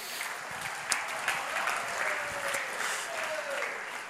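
Steady applause from a crowd, a dense wash of many hands clapping at once with a few sharper claps standing out, sustained at an even level throughout.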